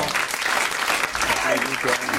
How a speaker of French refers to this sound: Non, il applaudit tout le temps, t'as pas applaudi quand j'ai parlé.